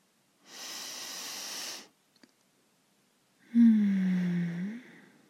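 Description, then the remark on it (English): A long, deep, airy inhale through the nose, followed after a short pause by a second breath carrying a low, voiced hum like a sigh. “And again, breathe in with me, sweetie.”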